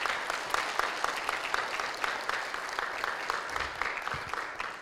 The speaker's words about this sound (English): Hey, let's give a round of applause for all these graduates.